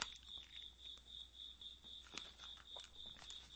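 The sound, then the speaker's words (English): A single cricket inside a studio chirps steadily in a high, pulsing trill that repeats without pause, fairly faint against a quiet background with no voices. “There's a cricket in the studio.”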